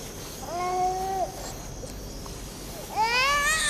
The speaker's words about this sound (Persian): چرا گریه میکنه؟ نمیدانم، هم شکمش سیر است و هم لباسهایش تمیز. با این همه نمیدانم چرا گریه میکنم.